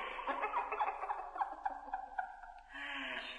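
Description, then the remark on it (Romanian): A bird squawks and gobbles in a rapid, rattling string of harsh calls, loud, ending in a brief raspy trill; no one speaks over it. “Pedeapsa ce te așteaptă e aceasta, să te prefaci în pasăre.”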